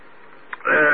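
A short, loud throat clearing by an amateur radio operator during an on-air radio net: a faint catch, then a rough, raspy burst that rises abruptly and holds strong until the end, with no words spoken.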